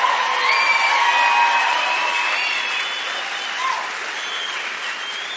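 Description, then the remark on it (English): A crowd at a service claps loudly and steadily for several seconds for the translators listening in around the state, a dense wash of applause with a few whoops and cheers mixed in, easing slightly toward the end. “So would you just tell them you love them. Clap for them.”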